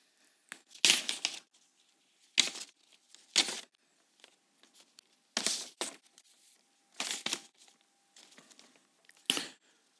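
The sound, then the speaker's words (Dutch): Paper crinkling and rustling as a sheet of notes is fetched and handled before a Bible passage, Habakkuk 3:16–19, is read aloud. The rustling comes in several short, sharp bursts spread over about ten seconds, with quiet gaps between them and no talking. “En dan ga ik mijn papiertje er wel bij halen, want dat weet ik niet uit mijn hoofd.”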